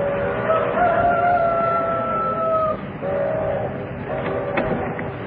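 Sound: rooster crowing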